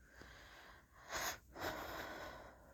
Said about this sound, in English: I instinctively respond to the command, filling my lungs with large, steadying breaths.